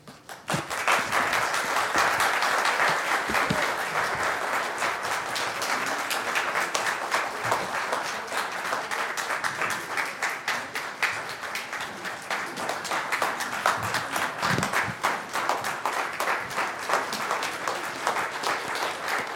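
A crowd applauds the performers of a Christmas story presentation steadily for about twenty seconds, a dense, even wash of many hands clapping at a sustained loud level with no voices standing out.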